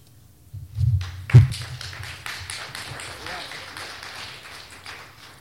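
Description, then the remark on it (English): An audience at a poetry reading breaks into applause after a poem: two dull thumps, then a dense, steady wash of many hands clapping that holds for several seconds and slowly eases off. “If you applaud after every number, and you applaud less for one poem than another, I'll think you don't like it.”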